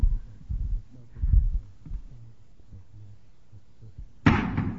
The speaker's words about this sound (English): Right, the bowling ball still hits the ground, right, far before, right, the balloon does. Right, the air resistance of these are the same. They're the same shape.